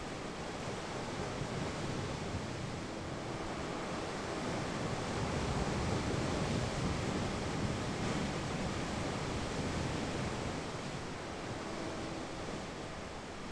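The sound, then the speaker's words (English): Steady sea surf washes and churns continuously below the point of a small peninsula, heard from about 10 to 15 metres above the water, with a broad rushing roar that swells gently midway. A light sea breeze adds faint buffeting; no voices. “I'm sitting at the point where the little peninsula drops off into the sea.”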